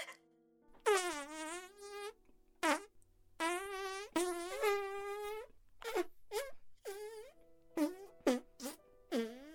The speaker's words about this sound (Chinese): 救命啊，好臭，臭死，不要，不要再放屁了，臭死，我真的受不了了。